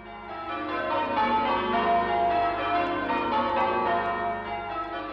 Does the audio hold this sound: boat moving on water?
no